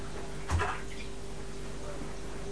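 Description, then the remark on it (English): A single short splash of hot bath water, a quick sloshing burst that fades within a moment, followed by quiet room tone with a faint steady hum. “Does that feel nice with the hot water?”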